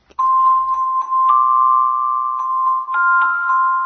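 A doorbell rings loudly as one long, unbroken electronic tone, nudging slightly higher in pitch twice before it cuts off after about four seconds. No one speaks.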